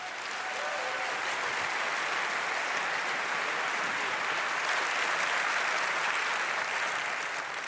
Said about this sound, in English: Give him a very warm applause.